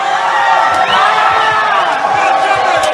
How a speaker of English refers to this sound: For the last few years, Pumpkin Fest has been drawing bigger and bigger crowds of drunken 20-somethings. But this weekend was over the top. A few square blocks near the college were filled with thousands of people chanting obscenities